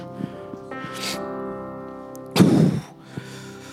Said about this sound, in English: Sorry for breathing in the mic.